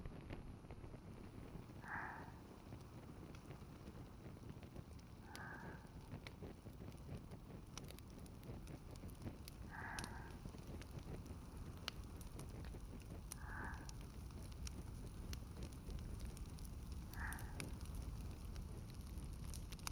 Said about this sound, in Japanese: 燃え始めましたね。薪がパチパチと音を立てて、空気が乾いていく感じ、私とても好きなんです。